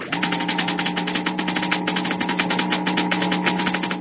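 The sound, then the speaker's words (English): Dense, rapid electrical crackling from a model atom smasher, a steady stream of sharp snapping bursts over a low, constant hum, loud and unbroken throughout with no voices. “The crackling comes from a model atom smasher, similar to large models used in treating deep-seated cancer and sterilizing foods and drugs.”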